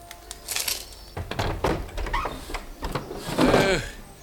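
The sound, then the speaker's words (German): A window of a house on a side street in Venice is pushed open overhead, with a series of wooden clatters and scrapes followed by a creaking, squeaky sweep of the frame, moderately loud. “Kurz darauf öffnete sich über ihm ein Fenster.”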